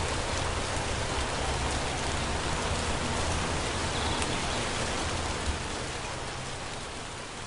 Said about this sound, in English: And still, the rain.